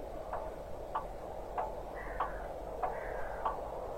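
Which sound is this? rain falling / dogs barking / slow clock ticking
slow clock ticking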